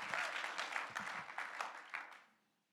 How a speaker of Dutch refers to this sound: Dus laten we een applaus geven en laten we haar aanmoedigen.